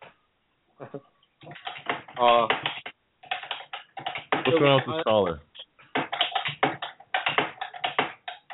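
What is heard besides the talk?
loud computer keyboard typing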